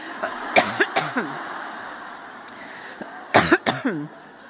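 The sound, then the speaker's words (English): Two loud bursts of coughing from someone with a cough drop stuck in their throat, each a quick cluster of three or four harsh, strained coughs, separated by a couple of seconds of quiet room noise, with no talking. “I stole one of Jean's cough drops and it's gotten stuck in my throat”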